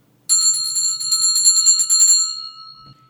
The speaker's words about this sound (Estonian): Ja kuna on selline koolisaade, siis me alustame seda saadet kooli kella helinaga.